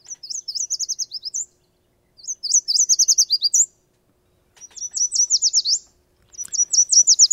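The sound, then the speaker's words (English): A yellow warbler sings four clear, bright songs, each a quick series of high sweet notes ending in a short warbled flourish, separated by brief pauses, with no other sounds. “let's turn to the songs of songbirds. And we've got a couple, three maybe, that we could go through. One, the yellow warbler.”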